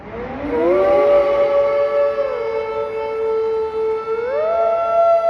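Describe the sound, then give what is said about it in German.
A loud siren wails steadily, its pitch climbing at the start, holding a long sustained tone, then sweeping upward again near the end. No voices are heard. “Singen zu Sirenen.”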